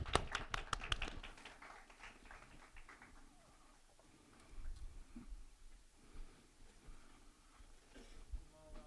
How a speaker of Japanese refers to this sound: 送ってくださった主に期待して拍手をもっとお迎えしましょう。